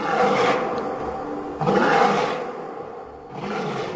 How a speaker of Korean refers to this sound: 여우는 제 노력이 수포로 돌아가자 아쉬워서 손바닥을 쳤고 사자는 크게 으르렁거리며 신음했다.